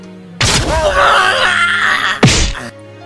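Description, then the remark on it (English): A man's loud, wavering scream lasts nearly two seconds as he is launched over a castle, broken by a sharp impact thud, then a second brief cry before it cuts off. No one speaks. “Okay, well, he's healed up enough to scream.”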